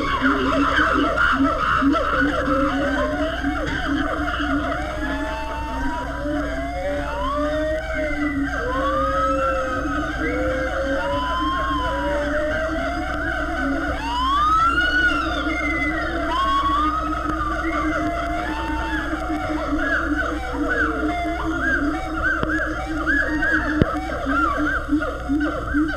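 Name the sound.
chimpanzees screaming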